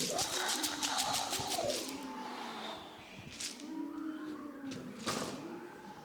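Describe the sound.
Several voices imitate wind in the trees, howling in long, wavering whoos that rise and fall in pitch, with breathy rushing hisses and a few soft thumps mixed in.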